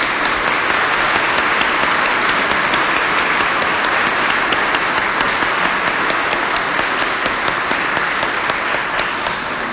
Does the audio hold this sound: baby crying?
no